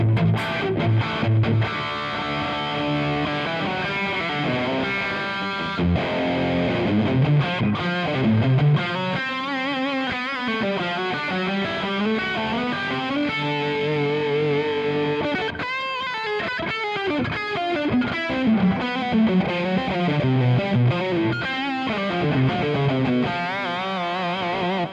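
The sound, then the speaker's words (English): A crunchy, distorted electric guitar played through a Kemper amp with the full humbucker pickup plays a continuous melodic line with bends and sustained notes, fairly loud and steady throughout, with no talking. “With yeah, I got some crunch somewhere in here. Let's see, what is this one? I'm playing a Kemper right now, so.”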